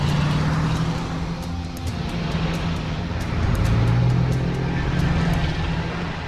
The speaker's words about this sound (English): Ty starts the engine and puts his foot down.